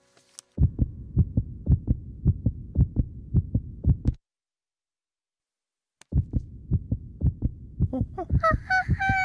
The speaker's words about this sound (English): That's the sound of my heart.